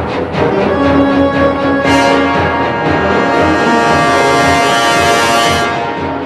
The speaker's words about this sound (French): Alors, dans la bande originale des Dents de la Mer, il y a une mélodie qui est récurrente. Sachez la repérer. Écoutez bien.